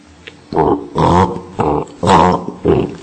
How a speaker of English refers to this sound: So the beautiful poetic speech of the frog is simply serving the purpose of calling the snake of death to devour it.